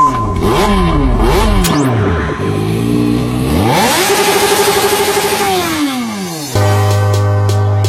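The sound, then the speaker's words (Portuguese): A motorcycle engine revs hard, its pitch climbing and dropping in quick surges, then holding a long high whine before settling into a steady, lower drone. “Preparem os motores, porque nos dias 28 e 29 de março em Amarante, tem Quinto Enduro do Salto Alto.”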